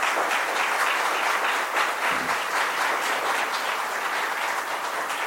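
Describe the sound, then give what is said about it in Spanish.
A crowd applauds steadily, a dense, continuous wash of many hands clapping at once, fairly loud and sustained throughout with no voices standing out, as an audience applauds a standing author of an award-winning research paper at an awards presentation in Nicaragua. “póngase de pie, por favor, para que le demos un fuerte aplauso ahí, por favor.”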